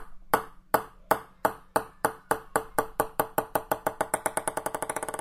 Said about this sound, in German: ich habe hier einen Tischtennisball in der Hand und den lasse ich fallen, dann ist die Welle, die da rauskommt, immer unterschiedlich, weil ich den Ball nie gleich auf den Fußboden oder auf den Tisch fallen lassen kann.